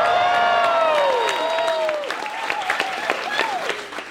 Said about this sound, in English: Laughter, applause.